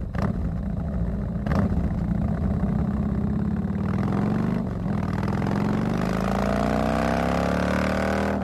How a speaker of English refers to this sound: And now, for your listening pleasure, a Harley-Davidson engine.